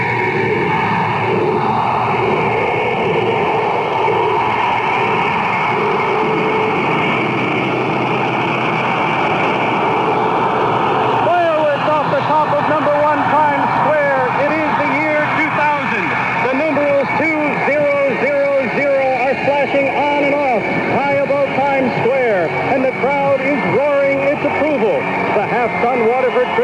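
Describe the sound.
A huge crowd in Times Square roars in a steady wash of noise, then many voices rise together into loud, rhythmic chanting and shouting that continues to the end, counting down to midnight as the Waterford Crystal ball descends into the year 2000.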